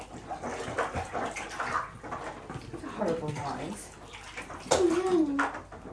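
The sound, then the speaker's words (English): Bath water splashes and sloshes steadily as it is scooped and poured over a child to rinse off soap before the water drains, while the child's voice whines and murmurs in short bursts over it. “I'm just washing your bum quickly before the water goes.”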